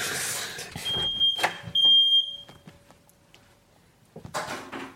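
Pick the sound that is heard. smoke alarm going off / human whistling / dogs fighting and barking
smoke alarm going off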